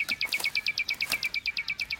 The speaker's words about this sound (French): Avec les oiseaux.